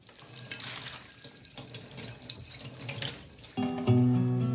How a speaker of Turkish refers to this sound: Kağıtları sıyırıp muslukta yıkarken tabak olduğunu gördük.